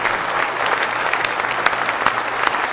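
An audience at a morning service claps their hands together in praise of the Lord, a steady, dense wash of many overlapping claps with occasional sharper individual hits standing out, loud and continuous throughout.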